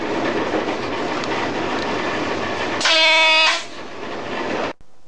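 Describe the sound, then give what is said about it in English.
A train rumbles steadily, then a loud, high-pitched brake squeal rings out for about a second before the noise eases and the locomotive comes to a halt at a signal. No one speaks. “Well, it's just as well that I did start braking well, because the signalman has the wrong road off for me, and I shall have to stop at this signal now and tell him.”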